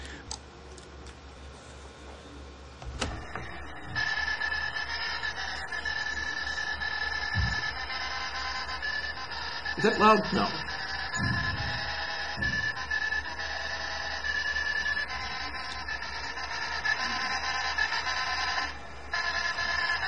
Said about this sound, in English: So what this is …, being played by a IBM 1401 printer in the late 60s.